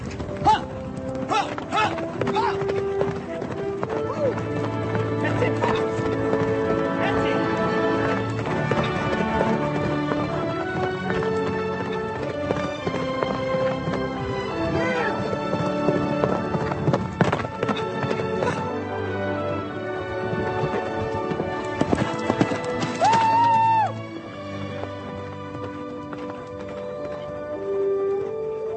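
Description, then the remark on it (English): A racehorse's hooves clip-clop in a steady, rhythmic gait throughout, fairly loud, set within a dense, busy soundscape with sustained tones and no clear talking. “They knew this horse was fast, right?”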